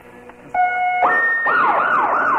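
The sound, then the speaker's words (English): A police siren starts with a couple of short steady tones, then breaks into a fast, repeating up-and-down wail that stays loud and shrill throughout, with no talking. “Yes, your police dollars at work.”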